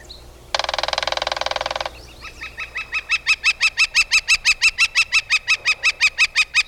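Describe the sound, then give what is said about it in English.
A young northern flicker fledgling gives a harsh, buzzy rasp, then a steady rapid series of repeated calls that grow louder and continue evenly, clear with no talking. “The best thing you can do for the young flicker, and other fledgling birds too, is to give the bird some space.”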